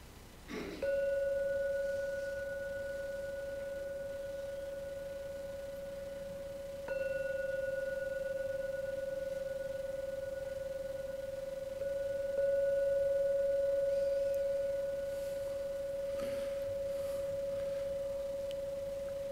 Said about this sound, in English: Now I'll do the jingle bell thing to end the meditation.